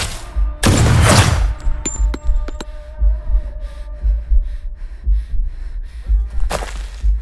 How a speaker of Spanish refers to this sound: Acto seguido y sin previo aviso, el sonido de dos disparos interrumpió las voces de mi alrededor.